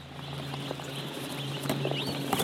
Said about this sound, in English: an industrial farm where they raise chickens that in China are known as white feather meat